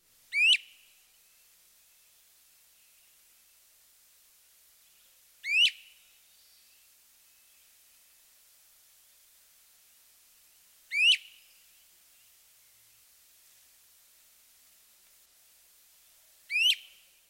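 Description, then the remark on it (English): A great crested flycatcher gives four sharp, rising weep whistles, each brief and spaced several seconds apart in a steady rhythm, clear against a quiet background. “The great crested flycatcher has two characteristic vocalizations. The first is a repeated weep. Listen to this ascending whistle.”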